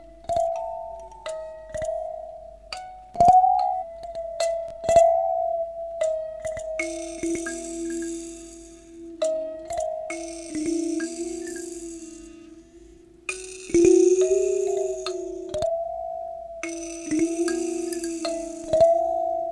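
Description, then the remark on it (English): Plucked, bell-like instrument notes played through a flanged tape echo sound alone, each trailing into repeating echoes that sustain and shift in pitch, with swirling, hissy flanged sweeps washing over the higher range and sharp clicks in between. “And I'm gonna adjust some things in post, or I'm gonna leave them in parallel because it's fun to play into this flanged echo.”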